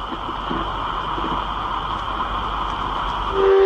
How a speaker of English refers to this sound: Close the hatch and exhaust the airlock.